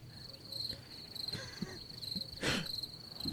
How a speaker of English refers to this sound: Yeah, that's my response. So crickets.